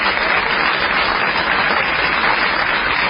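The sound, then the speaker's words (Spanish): Sustained applause from a theatre audience at the Teatro Caras y Caretas in Buenos Aires on a hot evening, an ovation for Patricio Barton: a dense, steady wash of many hands clapping at once, loud and even throughout with no voices standing out. “Está presente como siempre y solicito una amplia ovación para él, Patricio Barton.”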